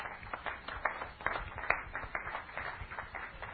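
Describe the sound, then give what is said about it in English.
An audience in a tent claps steadily in a dense, continuous patter, with a few brief cheers or whoops rising above it. No one speaks. “Give her a cheer.”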